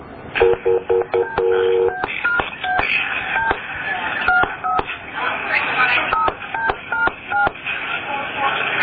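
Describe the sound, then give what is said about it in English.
A phone line clicks through a hook-switch flash to transfer the call to a sergeant, then a string of touch-tone beeps dials out in quick bursts, with sharp clicks between tones and muffled voices underneath. “It hook switch again, right? Once it starts ringing?”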